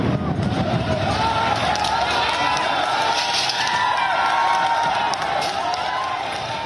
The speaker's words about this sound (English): The farmers had permits to do this big tractor convoy, but some broke through police barricades and clashes have erupted. And here's what it sounds like.